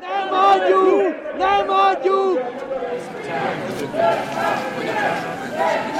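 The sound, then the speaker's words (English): A large crowd at a Viktor Orbán political rally in Hungary chants a slogan in rhythmic unison, the phrase repeating loudly before dissolving into a dense wash of overlapping shouts and cheering voices. Supporters' chants mix with opposition chants of "Filthy Fidesz". “But in the crowd, mixed with the chants of his own supporters, were the chants of the opposition.”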